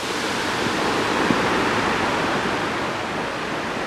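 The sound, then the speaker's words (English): Steady, loud rushing of water from a waterfall in South Korea, a dense continuous roar that stays constant throughout with no voices. “Just walk along this, and there's the water.”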